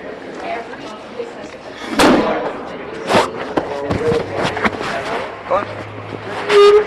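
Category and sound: household object, chair squeaking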